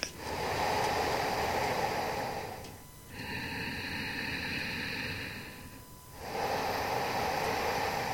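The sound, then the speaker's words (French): Slow, deep yogic breathing done only through the nose to fill the lungs completely: a long rushing breath for about three seconds, a quieter pause, then another strong nasal breath, with no talking. “Voilà, donc c'est une respiration vraiment profonde qui se fait uniquement par le nez et qui vient du coup remplir complètement notre capacité respiratoire, ouvrir notre cage thoracique.”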